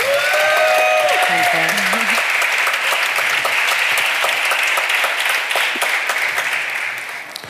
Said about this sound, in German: Einmal Applaus, bitte.